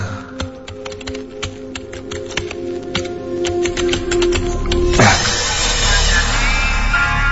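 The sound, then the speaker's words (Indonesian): Rapid, irregular key clicks of someone typing a financial report and designs on a computer keyboard, for about five seconds before a louder, steady sound swells in and masks the typing. “Lanjut aku menyalakan komputer dan segera mengetik laporan keuangan dan juga beberapa desain yang konsumen pesan sejak tadi pagi.”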